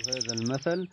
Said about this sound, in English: There was a rooster in the morning. Birds during the day.